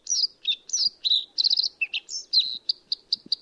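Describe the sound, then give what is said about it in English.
A bluethroat, a small bird not quite 6 inches long, sings a rapid, varied run of high chirps, buzzy trills and whistled notes, the phrases tumbling one after another without a pause. It is clear and fairly loud, with no voices. “Often singing while fluttering aloft, blue throats mix their own song elements with imitations of just about every bird within hearing distance.”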